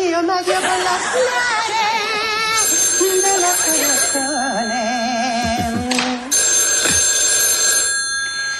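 A telephone rings with bright, sustained bell tones that carry on steadily for several seconds, mixed with warbling voices or other tonal sounds in the background.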